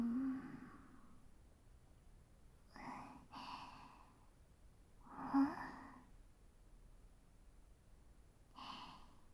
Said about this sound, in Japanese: 指揮官もあくびです。